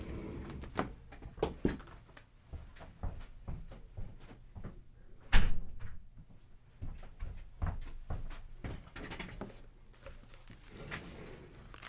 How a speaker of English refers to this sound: I think I'm going to close the door. I thought it was closed. It's not. Hang on.